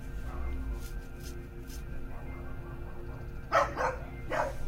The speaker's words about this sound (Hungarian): a szomszéd kutya.